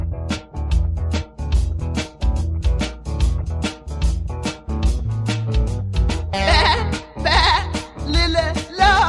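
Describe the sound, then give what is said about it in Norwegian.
A rhythmic, driving Norwegian children's song about a sheep, with loud, quavering sheep bleats breaking in over the music, growing more prominent in the last few seconds. “og da passer det godt å ta en sang om en sau.”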